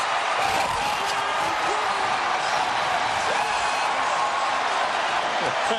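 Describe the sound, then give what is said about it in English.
A stadium crowd of 45,000 Brewers fans watching the Jumbotron roars and cheers as the Brewers reach the 2008 playoffs, in one loud, continuous wash of noise that holds steady for about six seconds, with no single voice standing out. “That is the crowd.”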